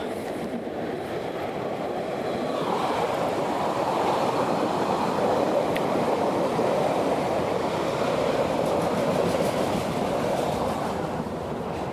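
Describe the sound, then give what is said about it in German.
An S-Bahn commuter train rumbles along steadily with a dense, rattling clickety-clack of wheels on track, loud, filling the whole stretch without any talking. “Bitte sehr, bitte schön, hier müsst ihr übrigens gleich in die S-Bahn kommen.”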